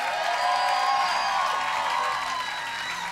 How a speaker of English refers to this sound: Come on, one more time. Why don't we give God one more clap?